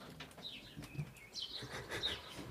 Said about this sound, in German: Was ist los mit diesem Vogel?